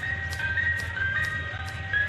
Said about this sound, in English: Hey, do I hear the ice cream truck? I love ice cream!